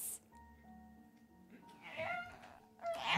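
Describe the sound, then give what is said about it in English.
An Arctic fox calls with a few wavering, high yowling cries that rise in pitch, the loudest bursts near the end, over a low steady hum. “Yep. Mommy and an Arctic fox.”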